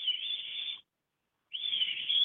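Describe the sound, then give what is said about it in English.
A person whistles two sustained, steady high tones separated by a brief pause, imitating a bird call, loud with no speech. “I can make the sound if you'd like.”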